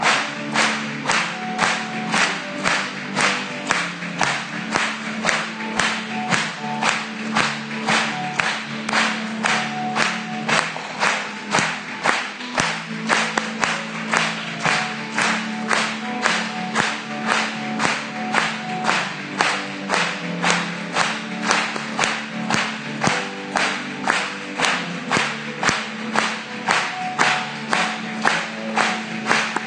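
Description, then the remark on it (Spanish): An audience claps together in a steady, even beat, roughly two claps per second, sustained for the whole stretch over soft music underneath, during a Spanish-language hymn to Jesus. “Vamos a aplaudirle.”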